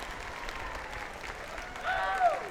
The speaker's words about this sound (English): So let's have a round of applause for the Orange Peel.